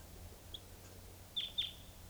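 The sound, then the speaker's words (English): A wild bird, a red male, gives two short, high chirps close together after a faint earlier peep, from a tree near a truck and cages of captive birds at about 6:20 a.m., clear against a quiet outdoor background with low rumble. “I mean, there is a wild bird here.”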